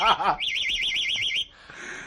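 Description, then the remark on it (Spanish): A pet canary, on hearing the car's ignition key, mimics a car alarm with a high, wavering whistle that rises and falls in rapid even cycles for about a second, following a brief warbling trill, then fades into a soft hiss. “Un hombre ha querido demostrar las habilidades de su canario.”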